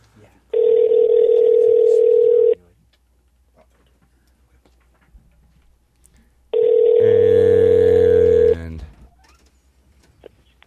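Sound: phone call ringing out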